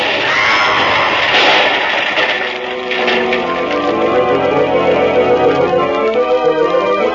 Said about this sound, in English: Just at midnight it was, officer. And I'm standing at the window when up above there's an explosion, fair to wake the dead.